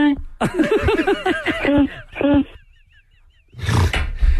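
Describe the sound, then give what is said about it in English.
Someone vocally imitates the Tom Werner horn: a run of loud, buzzy, honking blasts with bending pitch, a short quiet gap, then a burst of rough, noisy sound. “What's the Tom Werner horn sound like?”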